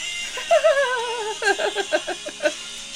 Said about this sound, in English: Hi, this is my alarm for work.